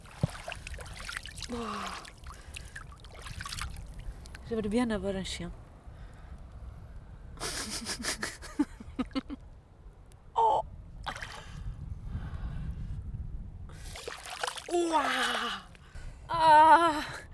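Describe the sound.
Water sloshes and swirls around someone wading into the Atlantic Ocean, making waves as they advance, with sharp gasps and bursts of breath, and a voice speaking briefly between the splashy movements.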